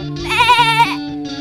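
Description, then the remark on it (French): A person imitates a goat with a single loud, wavering bleat lasting about a second, its voice trembling in a quick vibrato before trailing off. “Est-ce que je sais faire le bruit de la chèvre? Alors, vas-y, on t'écoute.”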